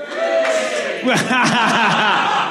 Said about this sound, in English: Now, just by a rousing cheer, who here has seen Phil do stand-up comedy?